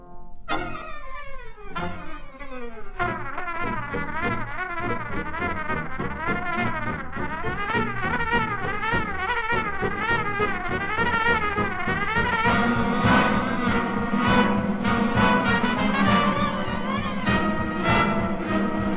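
A big band swing arrangement with a trumpet racing through rapid, buzzing chromatic runs; the full band swells in louder partway through, punching steady accents beneath the frantic lead line.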